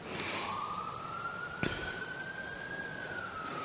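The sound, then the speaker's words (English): A single long, sustained siren tone wails steadily from a passing emergency vehicle outside, rising slightly then easing down, with a brief sharp click partway through and no talking. “And then there's all this inner and outer sirens.”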